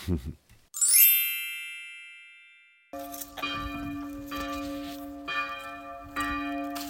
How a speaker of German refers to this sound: Ja, und hier hören wir sie nochmal, die Glocken im Kloster. die den Tagesablauf mehr oder weniger strukturieren. Ja, 6.45 Uhr in der Früh klingeln diese Glocken, läuten diese Glocken das erste Mal direkt vor meinem Fenster.